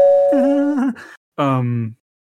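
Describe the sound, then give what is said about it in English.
A voice imitates a doorbell, singing a held, wavering high note and then a lower, falling one, a fairly loud ding-dong with a short pause between the two tones. “I'm ringing your doorbell.”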